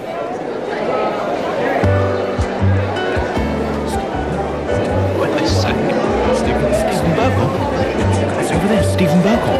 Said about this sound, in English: I spent the last week at the Edinburgh Festival, by the way, which is a cue for some realistic sort of crowd sound effects and jazz sort of cocktail bar piano.